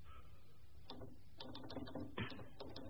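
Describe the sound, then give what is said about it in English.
Typing reports on a typewriter: a run of sharp mechanical clacks at an uneven pace, some in quick pairs, over a low steady hum with no voices. “What are you typing?”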